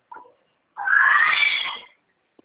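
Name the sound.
parrot squawking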